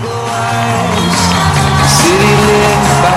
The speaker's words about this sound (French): Voilà, et le public d'applaudir, président …. Et salut à droite et à gauche, il dit bonsoir Chicago.